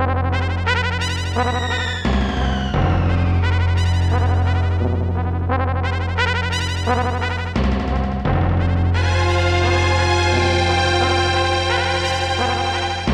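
Loud, echoey film score music with clashing, almost atonal sustained tones stacked over a deep droning bass, swelling in repeated waves with a couple of brief dips. No one speaks.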